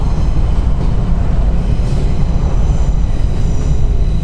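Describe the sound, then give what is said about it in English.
A train passes overhead, steel wheels on steel rails, a dense, loud low-frequency roar travelling through concrete, with faint metallic rattling, continuous throughout without any voices. “Above you, trains pass.”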